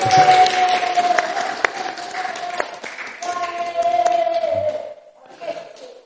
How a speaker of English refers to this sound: Yes, a round of applause.